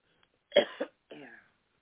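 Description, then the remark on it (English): A person coughs harshly, two quick rough bursts followed by a strained, throaty cough, as if choking on something, with no talking. “The enemy tried to choke me, but it's fine.”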